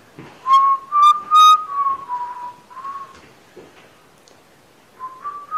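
A person whistles a wandering tune, with a few sharp bright notes early on, then softer sustained tones that fade and return near the end; no talking.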